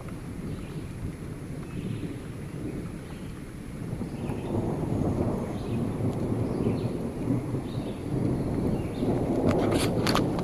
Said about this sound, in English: I'm gonna interrupt the thunder since it's fucking nonstop.